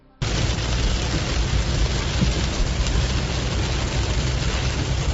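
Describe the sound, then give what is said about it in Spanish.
Heavy rain pours down in the municipality of Aguere, in a dense, steady roar that starts abruptly and holds at a constant loud level, with a deep low rumble underneath and no voices. “Así caía ayer el agua en el municipio de Aguere.”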